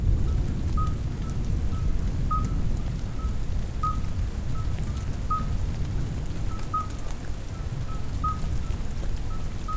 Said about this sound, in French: C'est la fin de l'orage.